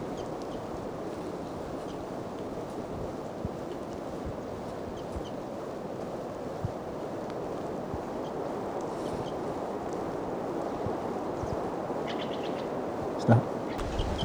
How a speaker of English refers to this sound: Wildbird's calling louder as the wind blows more and the rain continues to fall. Wildbird. Stop. Here's that wildbird again. And I'm pretty close now getting some good recordings.